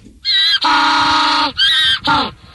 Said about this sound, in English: But I had no idea that a penguin's mating call, well, sounds like a donkey.